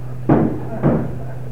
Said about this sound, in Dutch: Je hoort waarschijnlijk op de achtergrond wel het geluid van het barricaderen van de deur.